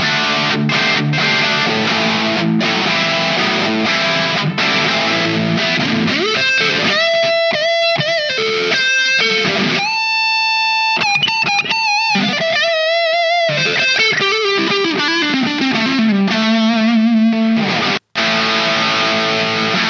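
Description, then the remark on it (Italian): A loud, heavily distorted electric guitar, played through a distortion pedal emulating a JCM 800 amp, plays alone, with crunchy chugging chords giving way to sustained, singing lead notes and a sliding bend near the end, all with a thick, amp-like overdrive tone. “In pratica, se non sbaglio, dovresti voler replicare la GCM 800, sì, la sì. distorsione.”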